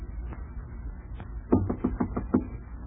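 Around six quick, firm knocks on the door of compartment 3 in an even rhythm, rapping out over a low, steady rumble with no one speaking.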